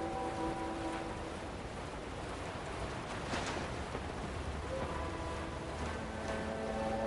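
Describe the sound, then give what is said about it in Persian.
Steady rain pours down on Fadan in a continuous, even hiss that fills the scene at a constant level, with faint tonal hums in the background and no voices. “به یمن قدوم فرزند شما باران به فدان می بارد.”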